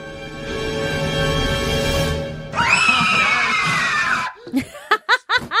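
Two loud, overlapping movie screams, mixed together, blend into one drawn-out shriek that holds for about four seconds, then breaks into a few sharp, panting laugh-like yelps.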